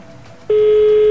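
A loud, steady telephone ringing tone starts abruptly after a brief quiet moment and holds unbroken to the end, a single pure electronic pitch with no talking.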